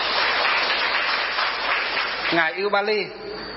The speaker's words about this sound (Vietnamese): Thôi cho một tràng vỗ tay để chúng ta đỡ buồn ngủ nào.